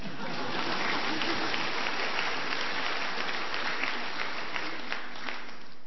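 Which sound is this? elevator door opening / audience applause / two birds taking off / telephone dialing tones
audience applause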